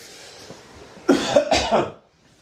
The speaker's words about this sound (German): Habt ihr nicht alle gesagt, ich huste nicht mehr so viel, wenn ich nicht mehr rauche? Naja, alles Lüge.